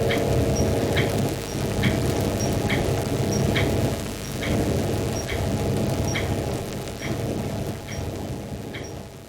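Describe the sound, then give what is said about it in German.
Steady, heavy rain of a thunderstorm makes a dense, constant roar with a deep rumbling undertone, while a faint, regular ticking repeats about twice a second throughout. No one speaks. “Es ist noch nässer geworden.”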